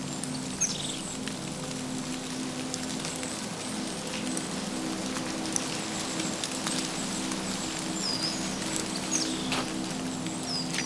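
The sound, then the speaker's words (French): A few birds whistle in short, scattered calls in cold weather at a nearly north-facing spot where snow is partly melting, over a steady wash of dripping, rain-like noise. Nobody speaks. “Quasiment face nord, malgré le froid, quelques oiseaux sifflotent.”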